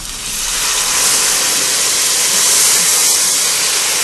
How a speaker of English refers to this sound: I love that sound. So the rice and the oil and the wine, as you said, crackle and pop. Yeah, I mean, it makes a wonderful sound, and it lets you know that you really did your job.